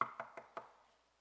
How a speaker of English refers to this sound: Go knock on their door. They hadn't been in church in decades.